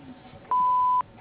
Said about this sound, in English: We're unable to get to the phone right now, but if you leave your name, phone number, and a brief message after the beep, we'll get back to you as soon as possible.